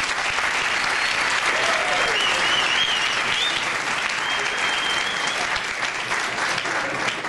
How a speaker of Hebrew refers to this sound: מותר היה למחוא כפיים.